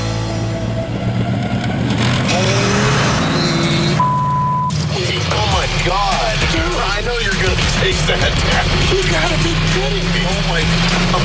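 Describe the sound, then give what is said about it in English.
The engine of a car with two motors rumbles with a steady, deep drone that shifts slightly in pitch, then continues underneath people talking loudly. “He's got two motors on that car.”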